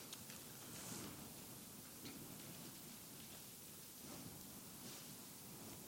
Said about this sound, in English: Okay, everybody, some people still looking. Your page is rustling. That's a good thing, though. I like people follow along the Word of God and we preach.